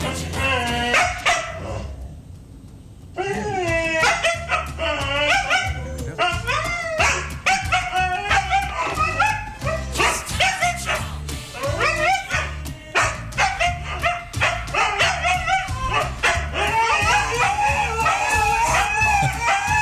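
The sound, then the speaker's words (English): Several dogs around town bark and howl continuously in a loud, dense chorus, yips and drawn-out wavering howls overlapping with a low rhythmic thumping underneath, with a short quieter gap near the start. “Dogs around town hearing that started barking.”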